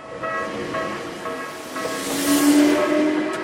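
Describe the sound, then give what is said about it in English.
A commuter train running into Tokyo rolls along the rails with a steady, loud rumble and hiss, faint metallic tones ringing over it and the noise swelling slightly near the end as it passes. “Those who still work take the train into Tokyo every day.”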